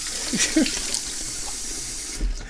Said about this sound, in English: I'm standing in front of my kitchen sink, washing my teacup, because there's kitty fluff in it.